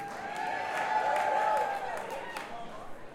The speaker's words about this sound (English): Some mighty fine crowd participation on the word cheers. You guys are fast learners.